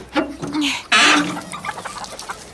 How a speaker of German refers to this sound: So, wir sind am Gehege. Dann lass uns mal nachgucken, ob die Hühner die Eier für den Osterhasen bemalen.